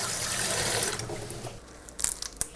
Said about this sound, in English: And I'm taking a big handful of basil off this bunch I have and rinsing that really well. Basil gets very sandy for some reason.